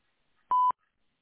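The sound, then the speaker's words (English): One short telephone keypad tone, pressed at a voicemail prompt to leave a callback number, a steady mid-pitched electronic beep lasting about a fifth of a second, sounding alone against near silence with no talking. “To leave a callback number, press 5.”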